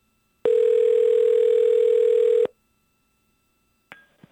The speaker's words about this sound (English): That's his phone ringing. Sounds like my phone ringing. Interesting.